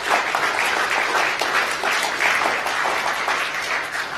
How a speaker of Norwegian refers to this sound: En applaus for Jesus og hva han har gjort for oss.